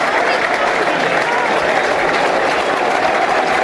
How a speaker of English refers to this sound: The applause, I think this is for Ted Ayres, a Millwall fan who passed away recently from, I believe it was cancer. Applause from the 59th minute, I think.